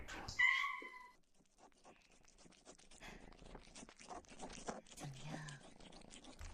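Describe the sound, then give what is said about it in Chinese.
A cat, Xiaomi, gives a short meow, then licks cat treat paste smeared on a person's back with a steady run of soft, rasping laps and little wet clicks, quiet and fairly even in rhythm. “小猫咪的舌头在你的背上，一点一点的舔舐。”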